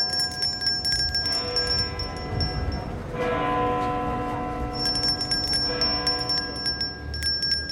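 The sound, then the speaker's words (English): A large bell tolls with deep, ringing strokes, each one left to hum and fade into the next. It is loud, with no voices. “The bell is tolling for you if you don't fund this research.”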